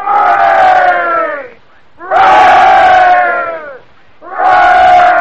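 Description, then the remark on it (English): A ship's crew of men cheers loudly for their captain in three big bursts of shouted hoorays, each lasting over a second, separated by brief pauses, the voices rising together in a rousing, ragged chorus. “Let's give him 3,000 cheers.”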